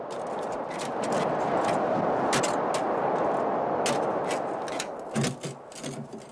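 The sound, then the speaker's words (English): A crowbar worked into the crack of a car door to prise it open scrapes and clanks, with several sharp metallic knocks and a heavier jolt near the end, over a constant rushing noise. “Someone's working a crowbar into the crack of the door, trying to open it.”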